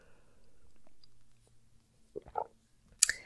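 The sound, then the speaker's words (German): A quiet sip of water: a faint low hum, then a few short wet gulping swallows and a sharp little clink at the end. Nobody speaks. “Lass uns zu Tipp 3 kommen und ich muss mal einen Schluck Wasser nehmen zwischendurch.”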